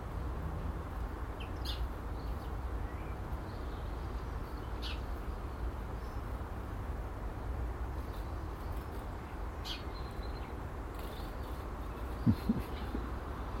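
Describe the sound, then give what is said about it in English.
Sparrows give a few scattered, short chirps as they land and feed at feeders hung in a small garden tree, fairly faint against a steady rushing outdoor background, with no one talking. “These wee sparrows have just reappeared close to me, but they've come to the wee tree this time with the feeders because I've stepped away.”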